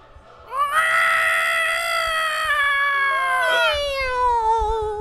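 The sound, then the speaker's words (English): A person loudly imitates a cat with one long, drawn-out meow whose pitch slowly sags, then breaks into a second falling wail, over a faint low rumble. “We have several people who speak cat and English who will be translating through the translation system internationally.”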